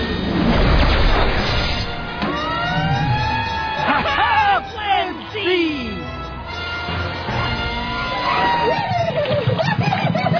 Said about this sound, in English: Fire truck!